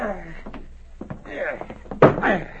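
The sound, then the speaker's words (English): A heavy tin box, just lifted down from a roof beam, is set on a wooden table with one solid thud near the end, after muffled voices and light shuffling. “It's plenty heavy. Bring it over here to the table.”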